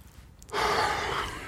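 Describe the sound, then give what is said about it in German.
A single heavy, breathy exhale swells up after a brief quiet moment and stays strong, an airy rush of breath with no talking. “Atmen, schweres Atmen.”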